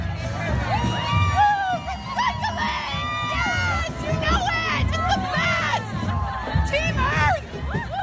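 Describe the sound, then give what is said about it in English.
A lively Mardi Gras parade crowd fills the air with overlapping shouts, whoops and excited chatter, rising and falling in steady waves of cheering for the full eight seconds. “At a lot of Mardi Gras parades, crews are throwing stuff to people in the crowd”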